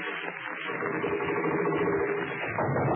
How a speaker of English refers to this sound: This sewing machine is driving me mad.